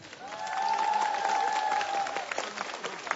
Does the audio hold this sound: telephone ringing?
no